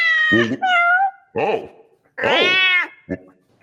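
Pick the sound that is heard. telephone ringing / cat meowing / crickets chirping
cat meowing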